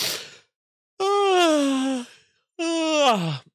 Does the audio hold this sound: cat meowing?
no